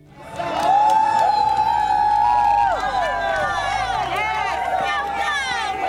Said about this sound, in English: As Sumner students got off the bus, the alumni cheered them on.